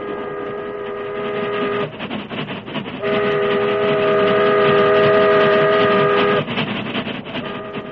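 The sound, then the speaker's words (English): A wood-burning steam train from Colfax rattles and rumbles past the last spur of the Blue Sage Hills onto windswept prairie, with two long, steady whistle blasts sounding over the clatter of the cars; no voices. “The train from Colfax, drawn by a snorting, wood-burning engine, rattled past the last spur of the Blue Sage Hills and settled down to the final 30 miles of windswept prairie that lay between it and its destination, River Junction.”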